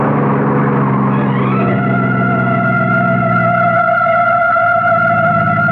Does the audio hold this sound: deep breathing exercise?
no